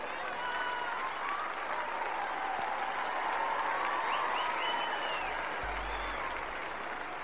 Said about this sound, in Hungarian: Hát az a közel 10 000 ember ismét tapsal és örömmel köszönte meg Ferenc pápa mai tanítását,